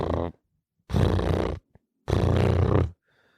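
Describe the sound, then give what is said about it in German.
A voice imitates a cat's purr with three rough, growling bursts, two of them long and loud, separated by short pauses and a tiny click. “Für alle, die es nicht können, ich mach's gerne nochmal nach.”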